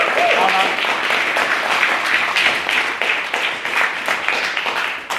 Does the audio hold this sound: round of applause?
yes